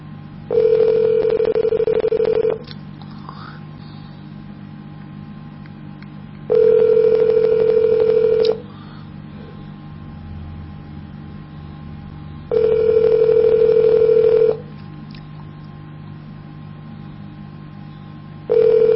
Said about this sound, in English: Detectives Bureau is not picking up. It's not picking up.